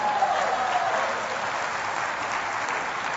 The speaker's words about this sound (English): You got to start clapping and you'll egg me on and you'll be in trouble then.